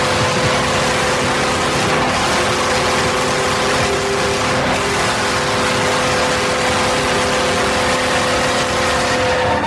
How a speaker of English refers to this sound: That is a full-throated horn. It's got a nice sort of subtle emergency signal in the background, kind of an ambulance thing going on there. I like that.